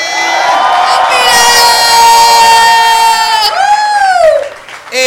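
An audience erupts in loud, sustained cheering for about five seconds, high-pitched whoops and shouts riding over clapping, with one long rising-and-falling yell near the end before it fades.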